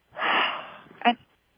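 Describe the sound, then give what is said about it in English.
A long, deep exhale during a breathing exercise rushes out, strong at first and then tapering off, followed by a brief breathy vocal catch at the end. “So breathe in, say, "I'm afraid," out loud. You have to say it out loud. Okay, "I'm afraid." And exhale.”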